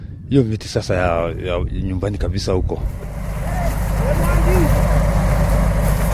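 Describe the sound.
A man speaks briefly, then heavy trucks rumble loudly and steadily as they unload in the middle of a garbage dump, a broad, continuous roar of machinery that fills the rest of the scene.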